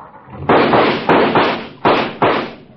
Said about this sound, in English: My, my, what a noisy car. Goodbye, Judge. Why don't you bring it to the park on the 4th and we'll use it instead of firecrackers?